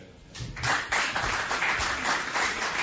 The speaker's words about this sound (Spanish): De nuevo aplausos y ovación en las Palmas de Gran Canaria hacia la figura de don Eloy Alberto Santiago, nuevo obispo de la diócesis nibariense.